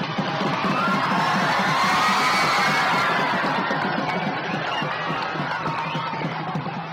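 A large crowd gathered at Jaffna railway station cheers and shouts continuously, welcoming the arriving Yal Devi train and the President, a dense, loud roar of many voices with whoops rising above it, sustained throughout without pause.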